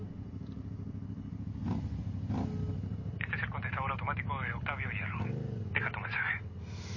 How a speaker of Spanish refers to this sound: Una moto pasa por la calle cercana.